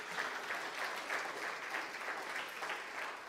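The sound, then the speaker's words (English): Steady audience applause at a morning church service, given to the Lord: a dense wash of many hands clapping at an even level for a few seconds, with no voices standing out. “And so let's give the Lord a round of applause for what he's doing this morning.”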